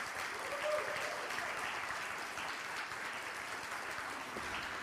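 Steady applause from the audience at Unity on the Bay for its ministerial intern, a dense wash of many hands clapping at a fairly even level, with a faint murmur of voices underneath.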